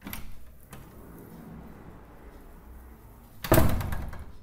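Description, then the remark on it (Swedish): A door opens with a soft creak and rattle as someone comes in from a snowstorm, followed by a few quiet shuffling steps inside, then a sudden louder burst of handling noise near the end, with no talking. “Kliver innanför dörren.”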